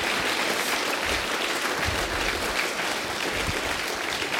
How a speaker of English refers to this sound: how many pastors we have in the audience right now? Raise your hand. There's a few. Let's give them a round of applause for being here.